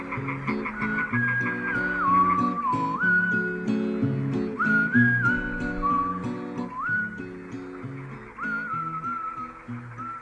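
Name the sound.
a person whistling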